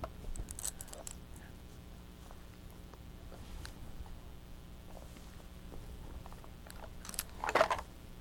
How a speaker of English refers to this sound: You would like chewing on the plastic food, wouldn't you? Huh. Feel good on your teeth?